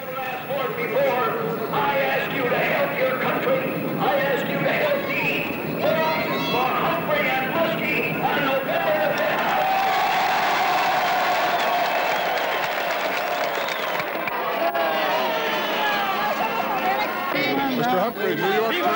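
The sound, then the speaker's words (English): A large rally crowd in New York for Democratic presidential candidate Humphrey cheers and applauds continuously, a dense roar of clapping and shouting that swells in the middle and stays loud throughout, with voices mixed into the din. “There are numbers possibly not so large as they have been for past presidential candidates on the Democratic line, but this was a friendly crowd”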